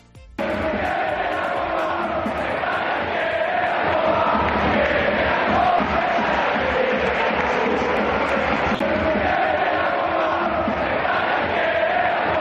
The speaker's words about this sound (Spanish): Quiere la Copa Mestalla, quiere la Copa, fue el grito que salió desde la grada de animación, desde la Curva Nord, en los instantes finales del derbi regional, en esa victoria del Valencia por 3-0 el pasado sábado por la noche